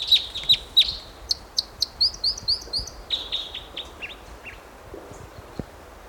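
A wild bird calls in a rapid series of high, sharp chirps and buzzy notes, fairly loud at first, then trailing off into fainter, scattered calls over a low background hiss.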